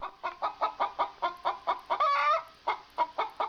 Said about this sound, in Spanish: Toma esta gallina. Es tan maravillosa que todos los días pone un huevo de oro.